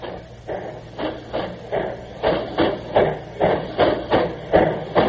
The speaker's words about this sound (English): Now listen, Kev, this is the way a real ancient, a genuine ancient, the oldest train existing in America, built in 1855, sounds. Listen to the sound.